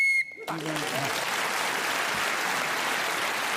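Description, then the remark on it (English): A short, shrill whistle blast, blown to end a round of a Radio 4 panel game, sounds at the very start, then is immediately followed by a burst of steady, enthusiastic applause from an audience that continues to the end. “So Sue Perkins was again speaking as a whistle.”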